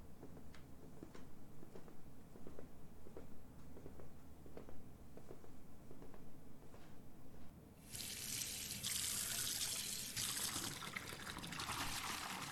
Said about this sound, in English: what I mean by washing you off is that I'm gonna draw you a nice, warm bath. And I'm gonna get all that dirt and grime off of your skin and hair.